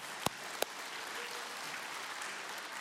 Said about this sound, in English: And we just want to applaud you. So let's applaud the moms and the grandmas here today.